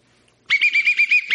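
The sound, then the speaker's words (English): A single shrill whistle blast, blown by a toy reviewer on finding a fault with a toy, lasting about a second, its steady high pitch warbling in a rapid, fluttering trill, heard alone with no talking. “Why'd you blow the whistle?”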